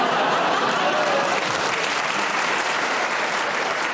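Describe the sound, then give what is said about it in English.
An audience applauds an interruption by a panelist on a panel game, a dense wash of many hands clapping at an even, loud level throughout, with no one speaking over it. “Because of the round of applause, Tony, I will give you a bonus point because they enjoyed the interruption, but he wasn't deviating in any way.”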